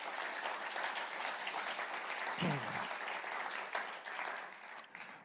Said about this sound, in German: Und alle Ehre sei Jesus. Wir haben einen Applaus für Jesus.